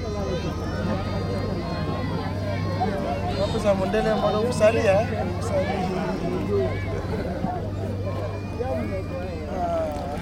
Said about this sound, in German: Kinder haben sich am Ufer aufgereiht. Und als sie mitbekommen, dass ein Weißer auf dem Boot mitreist, kommen immer mehr hinzu. Ich winke und der Jubel ist riesig.